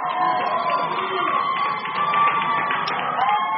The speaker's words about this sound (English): Outside a Baltimore courtroom yesterday, a crowd cheered when he walked outside.